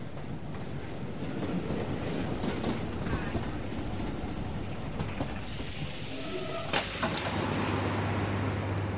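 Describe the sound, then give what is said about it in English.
A train rumbles steadily with rattling wheels and clanks, then brakes squeal sharply near the end as it slows into Victoria Station, a low engine hum lingering underneath. “We chatted about books until the train arrived at Victoria Station.”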